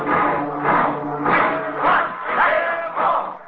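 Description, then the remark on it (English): An angry crowd of rooters shouting together in front of the Yale dressing room, voices swelling and falling in repeated waves of loud, overlapping yelling, sustained throughout. “An angry crowd of rooters is gathered in front of the Yale dressing room, and as Frank steps through the door, he's greeted by the distraught Rutgers captain.”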